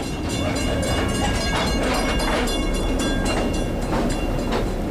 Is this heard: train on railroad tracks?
yes